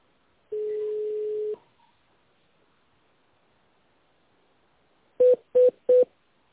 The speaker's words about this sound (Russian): Здравствуйте. Вы позвонили в компанию «Югра». Наберите в тоновом режиме внутренний номер абонента и дождитесь ответа секретаря.